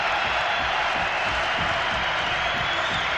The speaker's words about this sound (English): Listen to that crowd.